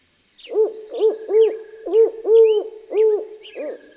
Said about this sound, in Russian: Гулял мышонок по лесу. И вдруг сова летит.